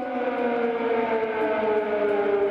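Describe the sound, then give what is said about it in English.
An air raid siren in Kyiv wails steadily at a sustained pitch, loud and continuous throughout, with a faint hum of ambient noise beneath and no voices. “Air raid sirens still sometimes punctuate the day in Kyiv.”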